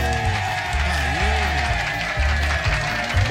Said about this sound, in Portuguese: Aplausos!